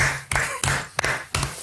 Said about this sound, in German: Das ist ja mal Applaus wert, Alter.